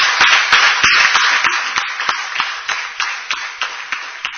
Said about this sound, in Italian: Vorrei che tutti assieme facessimo un applauso al nuovo sindaco che è qua vicino a me.